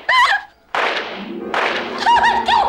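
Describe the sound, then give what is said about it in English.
A hand slams down hard on an answering machine with a sharp, heavy thud, followed by a second clattering impact, while squeaky, voice-like tones sound before and after. “He slams his hand on the machine.”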